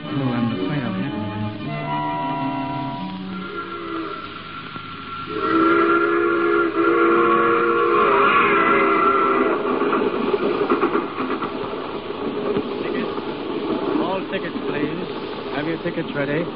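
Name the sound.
moving train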